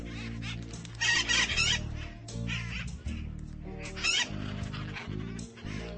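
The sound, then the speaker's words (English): A pet bird named Connor, with a blue head, calls loudly in a run of harsh, nasal, honking squawks, with a few louder bursts standing out over the steady calling. No one speaks. “You're a beautiful bird, Connor.”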